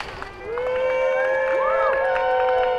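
A crowd cheers and whoops loudly and continuously, with shrill rising and falling voices and excited shouts layered over a steady roar of many people.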